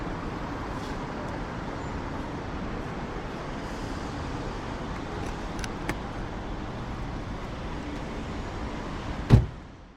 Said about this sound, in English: The first thing Gemma did when they both got back in Viv's car was pinch the knuckle indentations out of the steering wheel with an apologetic smile.